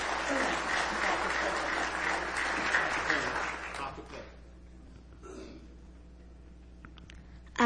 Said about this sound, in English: But these girls are here tonight. God bless you. Give them one more hand as they sing for you tonight.